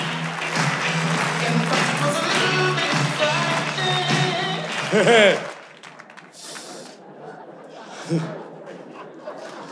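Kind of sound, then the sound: crowd, audience applauding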